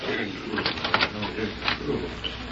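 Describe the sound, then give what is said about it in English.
A printing press printing fake paper money runs steadily in the shop below, its mechanical clatter repeating in an even rhythm with sharper clacks every half second or so, moderately loud and slightly muffled as if heard through a floor. “If I print any more fake paper money for Ormond King, I'll never be able to face Prairie City again.”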